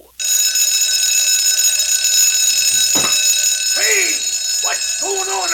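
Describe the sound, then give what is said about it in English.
A little alarm clock, Tickety-Tock, rings loudly and without a break to wake a farmer, a bright, high, buzzing clatter, while a few swooping, voice-like whoops rise and fall over it near the end. “And the little alarm clock was a really, truly hero to the grateful farmer.”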